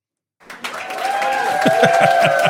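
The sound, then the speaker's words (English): Studio audience applause, welcoming a guest, swells up from silence into steady, dense clapping that stays loud and even, with a few cheers and whoops riding over the crowd's hand claps. “Yay, I got applause.”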